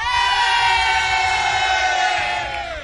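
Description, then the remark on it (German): A costumed crowd of about 600 people at a party in Büren cheers loudly together, a sustained wall of shouting and whooping voices that holds steady for a few seconds before starting to fade slightly at the end. “und jetzt möchte ich euch alle nochmal jubeln hören.”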